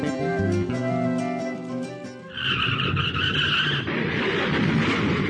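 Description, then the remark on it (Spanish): Car tires screech in a loud, sustained skid that gives way to a harsh burst of crashing noise, following a brief stretch of tonal sound at the start. “¿Cómo quedó el auto? Perdóname, fue mi culpa.”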